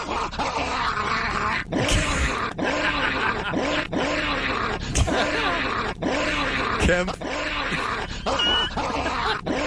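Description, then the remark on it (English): A person imitates a dog, letting out a steady run of gruff barks and throaty growls, loud and rhythmic, with brief breaths between bursts. “Now, Kempf was walking by the alleged victim, a 52-year-old man, who Kempf told police barked at him.”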